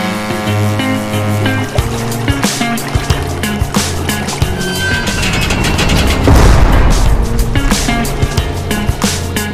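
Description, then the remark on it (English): A boat headed to Alcatraz motors over waves, going up and down: a steady low engine drone under rushing water, with irregular thumps and splashes as the hull rises and drops, loudest toward the middle. No one speaks. “We're in the boat ride going up and down the waves where many prisoners try to swim across.”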